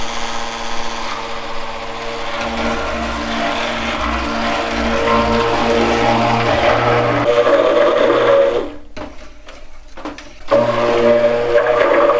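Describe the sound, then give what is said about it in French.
A hand blender whirs loudly and steadily as it mixes a thick soap paste while lye is added, its motor pitch shifting as it churns, then cuts out briefly for about two seconds before starting up again. “Et tout en mettant la soude, je peux commencer à mixer, à mélanger avec mon mixeur.”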